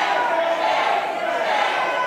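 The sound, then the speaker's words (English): A large crowd of spectators in the Wisconsin Senate gallery erupts after being ordered to leave, a loud, continuous wash of overlapping angry shouting voices, steady, with no single speaker standing out from the din. “After some people watching in the Senate gallery interrupted debate, Republicans ordered all spectators to leave. The crowd erupted.”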